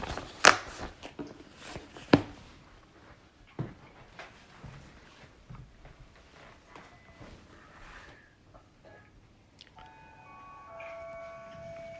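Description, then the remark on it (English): After several seconds of scattered clicks, taps and low rustling with no talking, someone's chime starts near the end to signal that time is up at the 10 o'clock hour: a short melodic run of clear, sustained tones at moderate volume. “Oh, I hear somebody's chime. Time's up.”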